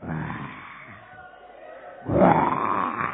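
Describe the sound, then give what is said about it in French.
A human voice imitates a lion's roar: a gravelly growl at the start, a brief lull, then a louder, sustained rumbling roar. “Un lion rugissant, ça fait peur.”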